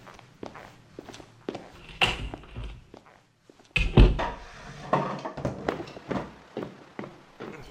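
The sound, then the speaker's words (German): Hurried footsteps and wooden thuds as a door is jammed shut with a chair, including a heavy bump midway, then scraping knocks and shuffling. No voices. “Er hat die Tür verkeilt. Wahrscheinlich mit einem Stuhl.”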